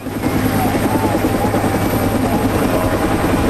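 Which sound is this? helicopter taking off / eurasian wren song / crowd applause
helicopter taking off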